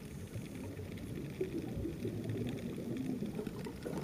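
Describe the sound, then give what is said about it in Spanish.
An octopus squirting ink underwater, heard as a steady, murky, low gurgling whoosh that churns continuously for several seconds with no voices. “Es un pulpo que está sacando su tinta. Escuchen cómo suena.”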